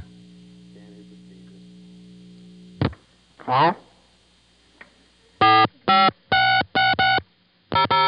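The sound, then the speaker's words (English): Over a steady electrical hum, a sharp click and a brief rattling scrape, then six loud touch-tone beeps dialed in quick, slightly uneven succession on a payphone keypad. “The touch tones are a giveaway that this isn't a 1970 recording.”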